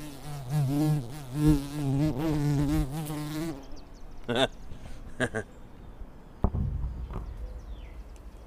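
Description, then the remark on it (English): A voice imitates a bee, giving a steady, wavering buzz for about three seconds. The buzzing cuts off, followed by a few scattered knocks and faint rustling. “Here, let me get a little bee sound going.”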